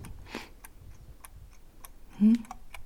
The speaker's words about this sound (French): Ah oh, si, il marche, tu vois. Ça marche, on entend. T'as vu, tic-tac. Il marche, hein.